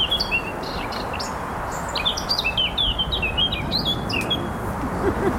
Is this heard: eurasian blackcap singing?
yes